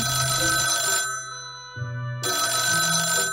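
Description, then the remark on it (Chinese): A telephone rings in two loud, buzzy bursts separated by a brief pause, its electronic tone bright and insistent, with no one speaking. “八成是你爸打的电话，一定又是要加班晚回来。”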